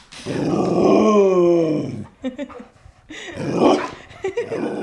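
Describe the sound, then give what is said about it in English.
A 90-pound Border Collie Great Pyrenees mix dog grumbles at home in Brooklyn, starting with a long, wavering groan that lasts about two seconds, then breaking into a few shorter huffs and throaty grumbles. No one speaks. “After the event, I came back home all the way back to Brooklyn, opened the door, and there waiting for me was my dog,”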